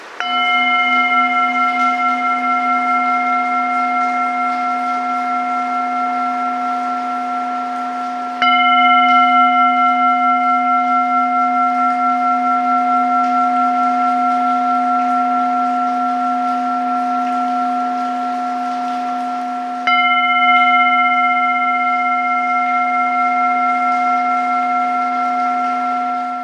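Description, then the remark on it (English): A Tibetan singing bowl is struck three times beside falling water, about two hours from Dublin, each strike blooming into a long, shimmering hum of layered overtones that sustains steadily, with no gap between strikes and no voices. “Play the resonant tones of the Tibetan singing bowl.”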